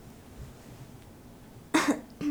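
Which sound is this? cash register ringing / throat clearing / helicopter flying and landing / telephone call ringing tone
throat clearing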